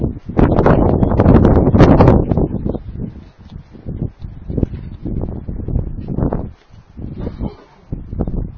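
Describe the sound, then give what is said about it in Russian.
Wind blows hard against the microphone in loud, rumbling gusts, strongest at first and then rising and falling, with rustling and buffeting noise throughout. “Понимаете, ребята, ветер банально сдувает.”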